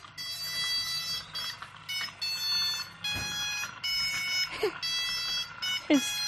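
The horn of a homemade remote-controlled toy car, built by a biomedical engineering student, plays a buzzy electronic melody: a run of sustained tones broken by short gaps, loud for several seconds.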